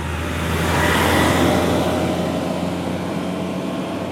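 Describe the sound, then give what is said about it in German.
A heavy diesel garbage truck in Salvena rumbles past, its loud, steady engine drone swelling slightly as it nears and then holding strong before easing off a little. “Müllauto von Salvena.”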